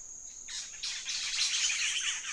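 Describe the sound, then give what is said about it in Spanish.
A black-headed saltator sings a noisy, harsh chatter of scratchy notes that starts with a few separate bursts and then speeds into a dense run, over a thin, steady high-pitched whine. “Pero este canto es muy diferente, un charloteo ruidoso que acelera.”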